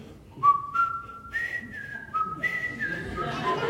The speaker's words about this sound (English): I'm going to whistle. Can I whistle? Is that all right?